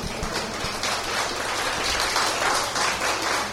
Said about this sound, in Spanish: Gracias. Den un aplauso a ese amén, por favor.